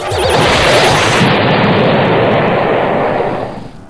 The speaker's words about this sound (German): Und die Welt um ihn explodiert.